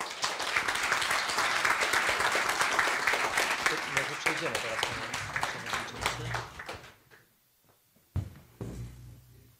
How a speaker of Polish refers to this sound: 16 lat, ja można powiedzieć jako wójt 2,5, ale wcześniej projekty społeczne realizowane wspólnie, więc wielkie brawa dla pani dyrektor za tą służbę.